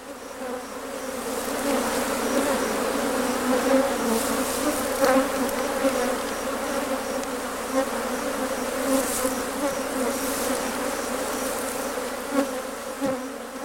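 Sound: bees buzzing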